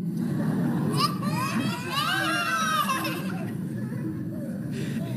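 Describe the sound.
A child screams in shrill, rising and falling bursts for a couple of seconds, riding over a steady hubbub of other children's voices and chatter that continues afterward.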